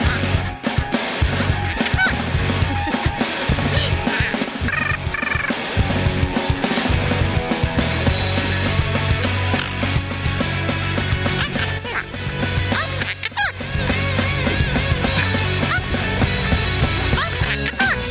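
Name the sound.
parrot vocalizing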